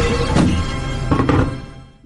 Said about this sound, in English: Dang, that's heavy. Baseball. Listen to that thing. You could bang someone over the head with that. I'm going to drop it on my new computer.